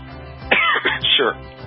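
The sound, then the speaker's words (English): A muffled, stifled cough and throat clearing from a man holding back coughs, several short bursts close together in under a second, against a quiet background. “he's holding back the coughs.”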